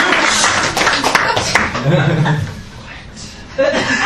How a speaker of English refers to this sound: Thank you very much. You don't have to clap unless you want to. I think you should clap. Come on, you should clap.